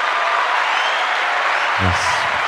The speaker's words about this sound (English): Why the applause? Because you're juggling balls and spinning plates and riding a unicycle. That's pretty impressive.